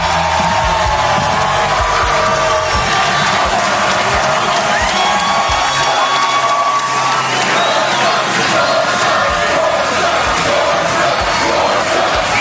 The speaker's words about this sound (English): Saturday was a milestone for him. His 400th pick via mascot headgear. The crowd created a beautiful moment for him in celebration.